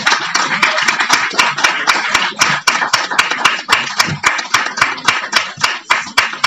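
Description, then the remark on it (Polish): A crowd in a barn applauds steadily for several seconds as actress Elżbieta Jodłowska is invited onto the stage, a dense wash of many hands clapping, with some sharper claps standing out in a loose, almost regular rhythm. No voices come through. “Proszę o brawo.”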